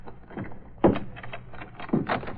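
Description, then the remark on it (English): A closet door is unlocked and pulled open, with a sharp click and a thump followed by a second knock, then a soft rattling scrape as it swings, with no voices. “It's coming from that closet. That it is. Unlock the door.”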